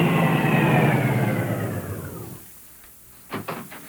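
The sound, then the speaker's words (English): A car engine roars loudly with a steady rumble, its pitch sliding downward as the sound fades away, followed by a lull and a couple of short, sharp bursts of noise. “Car coming.”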